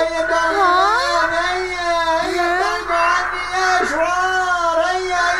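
A parrot screaming: a loud, continuous, high-pitched wail that wavers up and down in pitch for several seconds with no breaks. It sounds like a human voice imitating the bird's cries.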